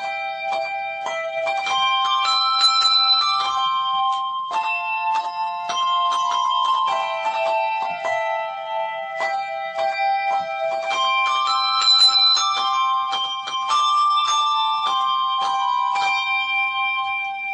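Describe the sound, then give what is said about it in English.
A group of handbells rings out a tune, bright overlapping tones struck in steady succession with lingering shimmering decay, close and fairly loud with no voices throughout. “Interested further in handbell ringing, you can contact the charity Handbell Ringers of Great Britain”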